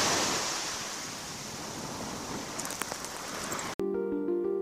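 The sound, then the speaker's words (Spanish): Steady rush of ocean surf washing onto a beach, a continuous broad hiss of breaking waves, cut off abruptly near the end by a short burst of tonal music. “¡Llegamos! ¡Mira qué grande el mar!”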